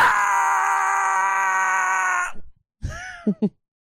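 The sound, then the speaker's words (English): A person voices a long, steady, high-pitched ghostly scream for about two seconds, then after a short pause lets out a few shorter wavering, loud cries and yelps. “You'll just make a little noise. I'll just be screaming.”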